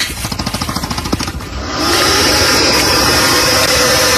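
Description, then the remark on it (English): An alligator gives a quick, throaty rattle of rapid pulses lasting under two seconds, then breaks into a loud, steady, breathy hiss that holds to the end, with no voices. “Yeah, they have a hiss that's noise, chilling. And then it's like a rattle, like a...”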